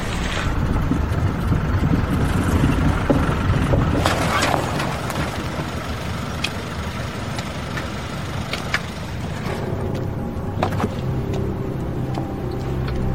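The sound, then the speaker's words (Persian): A heavy truck arriving late with a delivery of building materials, its engine rumbling loudly and steadily, the deep drone filling the scene, settling into a lower idle toward the end with a few faint clanks. “چرا الان کامیون اومده؟”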